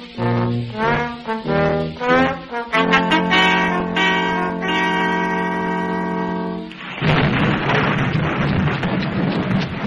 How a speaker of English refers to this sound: Why, it's coming down in buckets. Raining, is it? No, I perspire a lot. Well, of course, it's pouring.